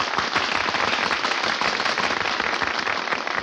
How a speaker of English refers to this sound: Hey, they're applauding us. They think Curly stopped bowing.